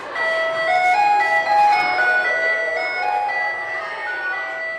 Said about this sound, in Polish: A dzwonek taki tradycyjny, głośny, powodował nie tylko u dzieci, ale także u nauczycieli, u pracowników administracji poddenerwowanie i drżenie, kiedy dzwonił. Dlatego zdecydowaliśmy się na dzwonek łagodniejszy, przyjemniejszy dla ucha.